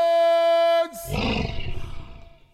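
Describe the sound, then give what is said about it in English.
A held musical note at the end of the Lions' fight song rings out and stops, followed by a loud, deep lion growl that rumbles and roars for about a second and a half. “The growl at the end was good.”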